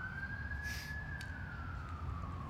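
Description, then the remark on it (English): A single emergency siren wails steadily over a low rumble of traffic, its tone slowly rising then sliding downward as it fades away. “Sirens.”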